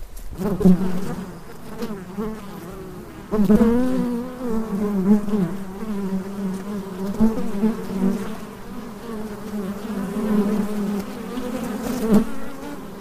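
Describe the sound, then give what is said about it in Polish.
A dense, steady drone of many honeybees buzzing as they work, a continuous low hum with shifting pitch and brief louder swells as individual bees pass. “Pięknie bzyczą te pszczoły.”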